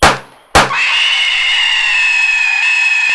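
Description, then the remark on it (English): Two sharp knocks, then a loud, shrill, awful scream that holds steady and unbroken for several seconds, piercing, with no talking. “Ralph Gorslin hears a scream. An awful scream!”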